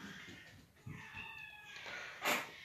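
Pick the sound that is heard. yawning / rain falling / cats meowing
cats meowing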